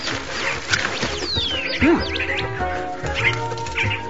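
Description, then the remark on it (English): A dense chorus of many rescued birds in the treatment room of an aviary, chirping, tweeting and whistling at once, with rising and falling calls overlapping continuously and no voices. “This is the heart and soul of our aviary.”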